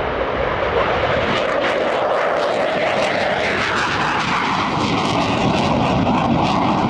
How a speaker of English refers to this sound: This is one of only two places in the country where the Navy trains pilots to fly F-18 Hornets. They're the fighter jets that the Blue Angels fly. Hornets are really powerful-looking aircraft and amazingly loud.